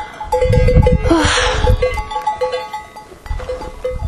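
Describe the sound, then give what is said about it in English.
Donkeys on a mountain path beside a deep gorge, their bells clanking and jingling steadily, with a brief breathy snort or bleat partway through and shuffling hooves underneath; two stand on the path as someone walks through them. “Well, okay, I'm going to walk through the donkeys now and see what happens.”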